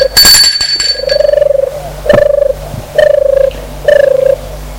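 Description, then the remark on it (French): A doorbell at a small two-storey 19th-century beige stone house, rung by pulling a Lyon-style slide pull: a bright metallic clatter at first, then four steady mid-pitched buzzing rings of about half a second each, evenly spaced and fairly loud, with no voices. “Il tire le coulisseau lyonnais pour faire marcher la sonnette.”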